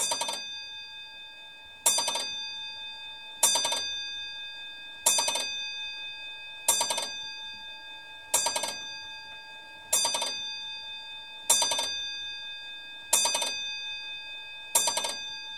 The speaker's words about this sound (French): 10 heures venaient de sonner à la vieille horloge comtoise dont le nombril de verre laissait voir la lentille de cuivre du balancier passer et repasser impitoyablement.